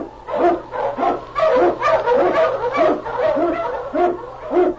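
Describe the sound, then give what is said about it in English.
Husky sled dogs, led by King, an Eskimo lead dog, bark and yip excitedly in a rapid, almost continuous chorus as they blaze the trail through storm and snow in the Yukon; the loud barks overlap in a steady rhythm with a faint low hum underneath. “On you, Husky! King, the swiftest, strongest of Eskimo lead dogs, blazes the trail through storm and snow for Sergeant Preston as he meets the challenge of the Yukon.”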